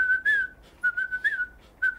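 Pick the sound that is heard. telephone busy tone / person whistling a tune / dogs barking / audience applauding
person whistling a tune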